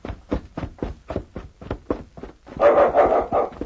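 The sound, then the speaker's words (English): A small dog barks in a quick, steady run of about a dozen sharp yaps, then breaks into a louder, drawn-out whining cry. No one speaks. “Long way for such a little dog to go.”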